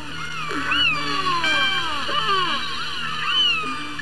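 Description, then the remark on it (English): Killer whale calls and whistles recorded underwater with a hydrophone: overlapping rising and falling squeals and squeaky tones, with a few faint clicks, over a steady hiss and low hum. “these clicks and whistles and calls, are used for communication, which is amazing enough.”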